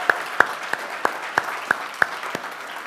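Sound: audience applause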